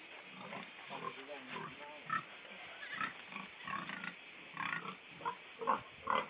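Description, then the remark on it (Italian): A huge, fat pig, fed whey left over from the cheese dairy and barley, grunts and snorts repeatedly in short, irregular bursts, with faint background murmuring underneath. “Io quando ero piccola volevo un maiale, era il mio sogno.”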